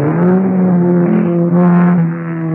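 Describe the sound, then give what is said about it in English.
A car engine revs hard and loud for a couple of seconds, its steady roaring whine rising slightly, with a tire squeal mixed in and no voices. “For the man who knows how to handle his car.”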